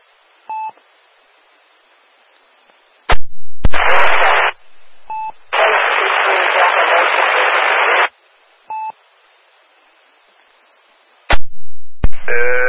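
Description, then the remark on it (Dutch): Radio static on a Dutch amateur radio net (Meppelronde, 3630) opens in harsh hissing bursts, each starting with a sharp click, while short two-tone beeps sound in the quiet gaps between them. A weak station's signal is buried deep in the noise, with no clear voice. “En dat staat heel, heel, heel diep in de ruis.”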